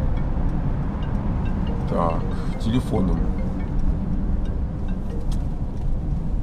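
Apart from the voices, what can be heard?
car interior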